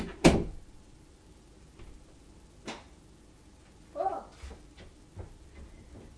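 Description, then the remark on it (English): A door shuts with a sharp, loud thud near the start, followed by a few softer knocks and faint rustling movements over a quiet background. “And I'll shut that door.”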